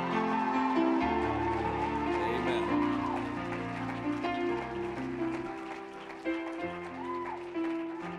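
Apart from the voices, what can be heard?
audience hand clapping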